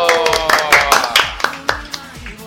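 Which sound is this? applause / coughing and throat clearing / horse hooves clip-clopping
applause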